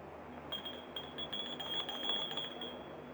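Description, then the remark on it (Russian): A doorbell at the door to an entrance hall rings without a break for about three seconds, a high, bright electric trill with a fast rattling pulse, fairly soft, with no talking. “Услышав звонок, Михевна торопливо идет к двери в прихожую.”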